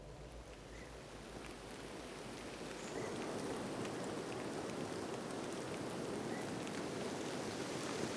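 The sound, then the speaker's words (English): Steady rain pattering on a surface, a dense continuous wash of droplets that thickens and grows louder after the first few seconds, with a low rumble underneath and no voices. “It's a kind of a rainy, misty Sunday morning.”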